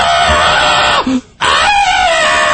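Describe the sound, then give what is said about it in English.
A person imitates an 'Easter crow' call with two loud, harsh, raspy screeches, each about a second long, separated by a brief pause. “What would the Easter crow sound like?”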